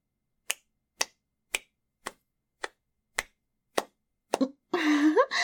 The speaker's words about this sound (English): Oh, this fat booty is so jiggly, isn't it, honey? Look at how my huge butt cheeks just clap like this. Oh, it's so fun to do.